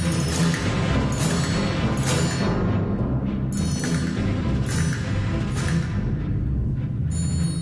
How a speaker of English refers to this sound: And now, percussion all together.